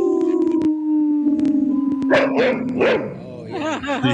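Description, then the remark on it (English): Four voices howl together in long, sustained wavering tones, joined by a dog's howling and a few sharp barks rising over them near the end. “A quartet of howling with a dog barking.”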